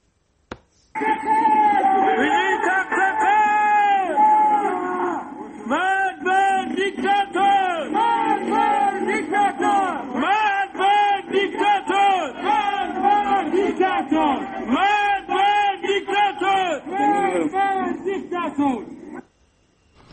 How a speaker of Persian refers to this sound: همچنین بنابر تصاویر دیگری، شماری از معترضان در سنندج شامگاه دوشنبه با بستن خیابان و روشن کردن آتش شعارهای علیه مقامات حکومتی سر دادند.